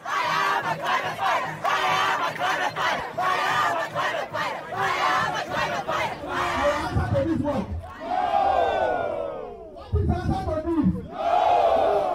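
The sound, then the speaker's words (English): A loud street protest crowd against climate change chants in rhythmic, pulsing bursts, then individual voices rise in long shouts and calls above the dense roar of many people. “We are protesting against climate change because politicians today are not willing to do enough about it. So we're taking to the streets.”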